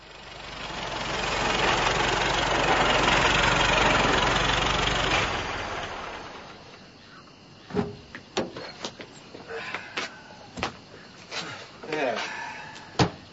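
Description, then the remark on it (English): A car engine idles, rumbling loudly and steadily for several seconds, then drops away, leaving a quieter stretch with scattered sharp clicks and knocks like doors or latches. “By day, the cars of the migrant people crawled west on the great highway.”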